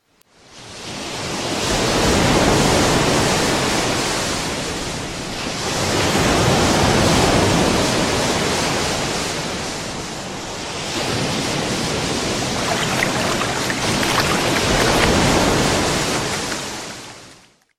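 Sea waves wash steadily onto a beach in broad, hissing surges, three or four swells rising and easing back over the span, loud with no voices.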